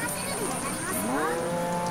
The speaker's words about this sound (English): What the hell kind of pachinko parlor is this? What the hell is going on in here? Did I just hear? Yeah, are there cows in this pachinko parlor?